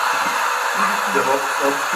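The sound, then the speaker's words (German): A steady, loud rush of air roars without pause from a pneumatic tube loop driven by many connected vacuum cleaners during a speed record run, recorded from outside the tube, with a low wavering hum rising underneath in the second half. “Das war das, wo man die ganze Staubsauger angeschlossen haben und einen Geschwindigkeitsrekord in der Schleife erzeugt haben.”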